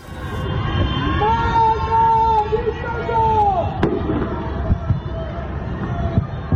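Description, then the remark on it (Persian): At night in Iran, on Tuesday 21 Bahman 1404, residents shout and chant anti-government slogans from the windows of darkened houses in long, drawn-out, overlapping cries, while sharp pops and bangs of government fireworks burst through now and then over a steady background rumble. “سه‌شنبه شب 21 بهمن 1404 جرقه های آتشبازی حکومت میخندند، اما از پنجره های تاریک خانه ها فریاد های ضد حکومتی در دل شب پراکنده میشوند.”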